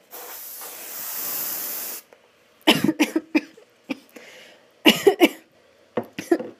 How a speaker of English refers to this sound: What do I do? I don't have a fly swatter. Do I look like someone who owns a fly swatter? Can I kill it with deodorant spray? I'm gonna do it. I'm gonna spray it to death.